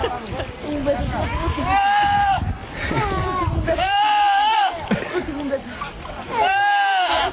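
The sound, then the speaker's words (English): Goats named Bob and Ed bleat loudly, about four long wavering screaming cries, some sounding almost like human shouts, over a steady rushing background noise. “This is just audio of goats.”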